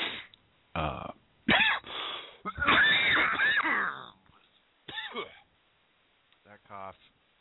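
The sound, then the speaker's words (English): A loud fit of harsh coughing and throat clearing comes in several rough bursts, some with a strained, voiced rasp, separated by short pauses and ending in a quieter final hack. “That cough is evidence, Goofy, that I'm trying to catch up to you.”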